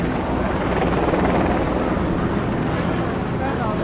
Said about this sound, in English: And we're heading up towards City Hall. As you can hear, I'm sure, there's at least three or four or five helicopters directly above us.